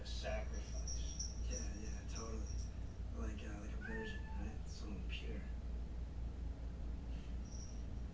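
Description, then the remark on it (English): The speaker's female pet cat meows repeatedly, several high, wavering cries over a steady low hum, with a brief quieter mew near the end. “If you hear my cat, it's because she's terrified of what's going to happen next in this movie.”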